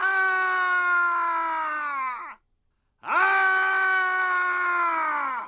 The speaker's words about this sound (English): It's entitled Screams Man. Screams parentheses Man.